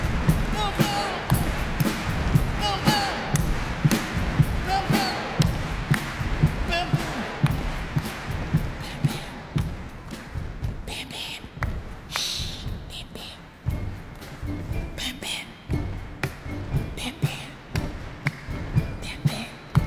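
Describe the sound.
Steady, rhythmic thumps of hands drumming on boxes in a choir music piece, dull low booms repeating, with murmuring voices and other activity underneath.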